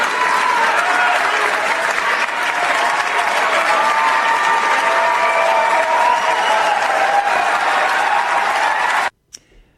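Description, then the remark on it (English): A large audience claps loudly and steadily for about nine seconds, a dense wash of applause with faint cheering mixed in, then it cuts off abruptly into near silence. “Hear the applause?”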